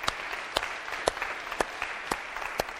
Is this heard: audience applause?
yes